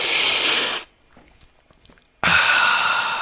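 A person demonstrating a seated deep-breathing exercise, imagining savoring tea or coffee, makes a long, loud hissing, slurping inhale through pursed lips, then a brief quiet pause, followed by an equally long, breathy exhale that fades slightly at the end.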